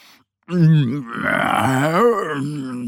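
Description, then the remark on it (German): A voice imitates the yawn of Mo, a little bear, made tired by grey November days: a loud, drawn-out groaning vocal that starts low, swells, then wavers up and down in pitch before trailing off, with no other sounds around it. “Gähnt der kleine Bär.”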